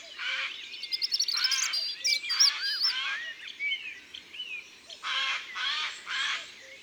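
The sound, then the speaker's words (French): A Eurasian jay gives a series of harsh, raspy screeches in irregular bursts, near the listener in a forest early on the morning of 20 April, with a pause in the middle, while thinner bird chirps and twitters carry on between the loud calls. “Nous sommes en forêt, le 20 avril, au petit matin, et il y a un geai qui crie près de nous.”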